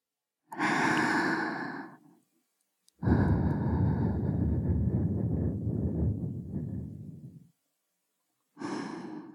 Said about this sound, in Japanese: 気持ちいいこと、お耳にしていくね。女の子にお耳ふうふうされるの気持ちいいでしょ。